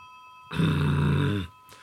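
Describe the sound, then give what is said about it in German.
A single loud, buzzing doorbell ring lasting about a second, harsh and steady, starting and stopping abruptly against a quiet background. “Das Klingeln macht mich wahnsinnig”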